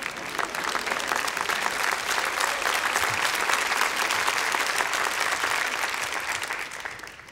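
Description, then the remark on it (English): An audience claps steadily, a dense mass of overlapping hand claps that holds at an even loudness for several seconds before tapering off toward the end. “Was that a clap time?”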